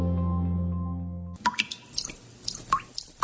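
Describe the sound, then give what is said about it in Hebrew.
A steady low hum gives way to water dripping from a leaking tap, a series of crisp plinks falling at an uneven pace with no one speaking. “אחרי 4 שנות בצורת, הקיץ הזה משתמשים במים בחוכמה ומתקנים נזילות בכל ברז מטפטף.”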